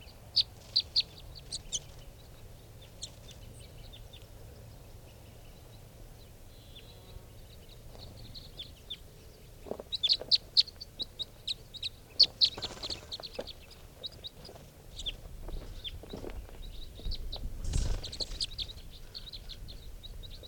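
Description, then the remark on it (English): Birds call and chirp outdoors in scattered, high-pitched bursts, with some low clucking notes mixed in, as five birds come down to the ground among wild birds, against a faint steady background hum. “They're going into the wild birds.”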